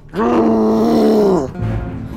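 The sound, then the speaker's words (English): A large creature with a feather-covered belly yells out in pain as an attack hits it in the belly: a loud, harmonic cry sustained for over a second with a strained groaning tone, then cutting off into a low rumbling thud. “And then you just hear it yell out in pain as it gets hit.”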